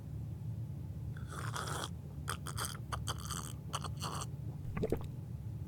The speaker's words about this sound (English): All right, last step, you gotta take a sip. Just a little one.